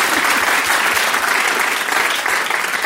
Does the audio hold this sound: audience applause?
yes